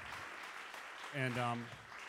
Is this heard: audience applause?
yes